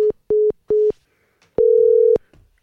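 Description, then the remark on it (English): A cell phone call disconnects: three short, evenly spaced electronic beeps followed by one longer steady tone, loud and clear with no voices. “My cell phone literally said, well, you're done talking. Click.”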